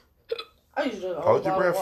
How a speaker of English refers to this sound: You just got the hiccups. That's all. Hold your breath for about 10 seconds.